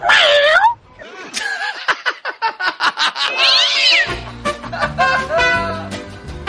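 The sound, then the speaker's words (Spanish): A person mimics a cat with a drawn-out, high meow, followed by quick breathy bursts like snickering, another wavering meow, then more meowing over a low, steady hum. “Mi esposa dice que soy un lindo gatito.”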